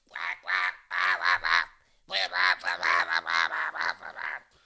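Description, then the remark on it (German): A duck quacks loudly in a rapid, repeated series of harsh, nasal calls, a short burst followed by a brief pause and then a longer run. “Siehst du da hinten die Ente?”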